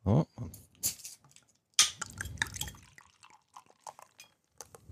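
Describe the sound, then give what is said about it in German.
Frankenheim beer glugs and splashes into glasses in short bursts, with light glass clinks and a few drips between pours, and no one talking. “Vielleicht möchtest du es uns schon mal eingießen?”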